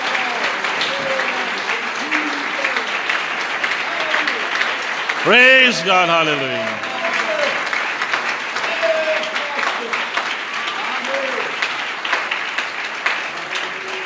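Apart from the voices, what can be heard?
audience applause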